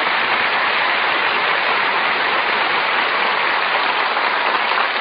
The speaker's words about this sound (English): This is a restaurant. Who's applauding you? The waiters. I'm a heavy tipper.